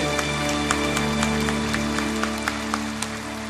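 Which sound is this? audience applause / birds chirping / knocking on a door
audience applause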